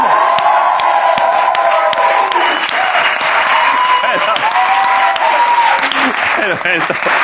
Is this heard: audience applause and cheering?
yes